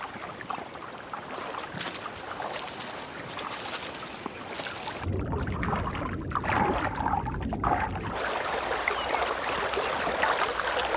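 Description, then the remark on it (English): Continuous running water rushes and splashes steadily, with a deeper, churning rumble joining partway through. No one speaks. “The sound of running water is their stimulus to shore up gaps with timber and plug leaks with mud.”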